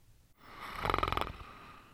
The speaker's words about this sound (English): And then a snore emerged from his muzzle.